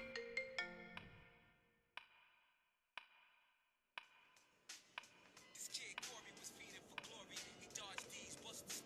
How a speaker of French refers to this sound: J'entendis le téléphone de ma mère sonner et celle-ci alla donc le chercher pour répondre à l'appel.